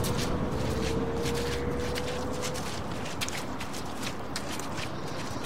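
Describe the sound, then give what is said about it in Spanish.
Footsteps trudge steadily up a muddy path leading to a house at ten at night in the rain, each step a soft, squelchy thud over a constant hiss of rain, with no one speaking. “Y subo por el embarrado sendero que lleva a mi casa.”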